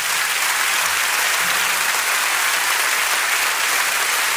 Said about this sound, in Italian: Abbiamo questo grande onore di avere la diretta di Radio Rai 3 e dobbiamo mandare un grande applauso di saluto a tutte le persone che ci ascoltano dal Teatro della Corte di Genova.